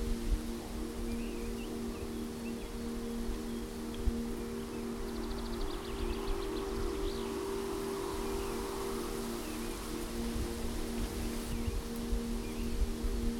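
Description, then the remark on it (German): Steady, soft rustling of autumn leaves stirred by wind, a continuous airy hiss over a low hum, with a faint high chirp briefly in the middle. No one speaks. “Genieße die Geräusche des Herbstes, das Knacken der Zweige und das Rauschen der Blätter im Wind.”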